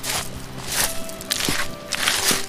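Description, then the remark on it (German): Hiking boots crunch on a loose gravel path in a steady walking rhythm, each step a bright, gritty scrunch, over a low background rush of water at the bottom of the Bärenschützklamm gorge, below limestone walls. “Die ersten Wanderschuhe knirschen etwas ungeduldig auf dem Kiesweg.”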